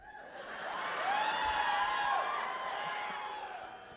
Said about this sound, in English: Are you booing Frasier? Millennials don't like Frasier.